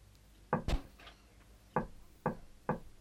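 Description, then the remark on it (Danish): Knocking on a heavy monastery gate at night: two quick raps, a pause, then three evenly spaced knocks, distinct, with no voices and only quiet background between the blows. “Hvem mon der banker, her nu så stille, på klostersporten, i natten stille, jo hele klostret er gået til hvile”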